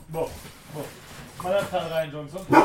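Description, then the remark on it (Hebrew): A dog named Gerev ('Sock') gives a few short barks, then a longer run of higher, whining yelps, ending in one more sharp bark. It is all fairly loud, with no one talking over it. “כן, מבקר הקולנוע, הכלב הראשון.”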